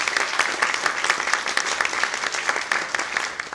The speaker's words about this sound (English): A counselor, give her a round of applause. Like she's been there.